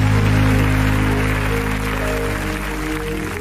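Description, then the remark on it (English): A crowd claps continuously in a dense, steady wash of applause that fades slightly toward the end, with low sustained musical tones humming underneath. “And yeah, I'll clap your hands.”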